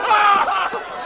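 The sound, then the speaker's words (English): Two sharp, high-pitched movie screams from Ron Burgundy in Anchorman and Ash in Evil Dead 2 burst out back to back, loud, each a short piercing yelp of pain, with nothing else around them. “The two screams you just heard were from Ron Burgundy in Anchorman and Ash in Evil Dead 2.”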